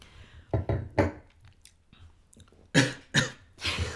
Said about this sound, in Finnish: Vähän väärää henkeä. Voi herran jästäs. Väärään henkeä. Niin. Väärään kurkku just. Joo. Mutta sekin on vähän kumma, koska ei kylläkään ole useampaa kurkku. Niin. Yskin vaan ihan rauhassa, ei meillä ole tässä mikään.